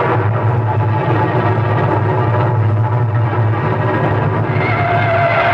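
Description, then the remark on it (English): A car drives steadily on a wet road in heavy rain, its low engine drone blending with a constant loud hiss of tires and spray, continuous with no voices. “Take my car and drive to Arthur's.”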